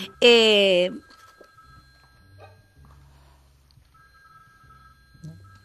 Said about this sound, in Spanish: Sí, ahora, un timbre que suena por ahí que no sabemos de dónde es, no es el nuestro.